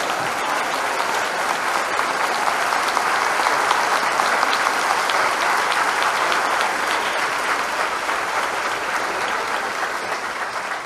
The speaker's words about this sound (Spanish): Y un aplauso para nuestro Dios de la gloria, nuestro Dios.